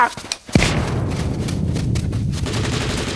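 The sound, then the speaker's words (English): A burst of gunfire with sharp shots at the start, then a dense, continuous rattle like rapid automatic fire that keeps going loudly throughout. “They're using real bullets!”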